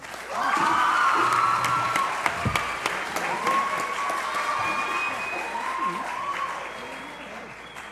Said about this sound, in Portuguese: Uma salva de palmas.